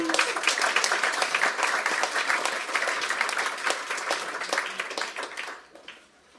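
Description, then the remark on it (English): A crowd applauds with dense, steady clapping that holds strong for several seconds before quickly fading out near the end. “So a round of applause”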